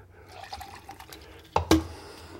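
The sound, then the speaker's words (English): A soft trickle of liquid runs for a moment, then two sharp splashing hits land in quick succession as liquid spills onto a new phone, followed by faint dripping. “I just soaked my goddamn new phone.”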